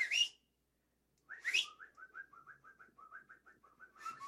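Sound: person whistling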